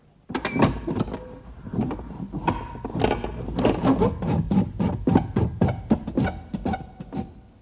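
The magic door of the cave in the tale of Ali Baba grinds shut on the command 'Sesame, close', with a long, rasping mechanical rumble, dense with ratcheting clicks and creaks like turning gears, sustained at steady loudness for several seconds before stopping.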